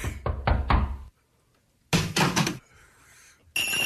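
household object, knocking on a door

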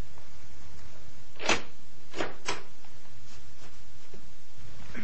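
household object, door being closed

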